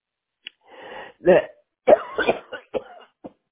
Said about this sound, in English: Are you okay? Right now, I'm coughing. Wait a minute. I do have this problem.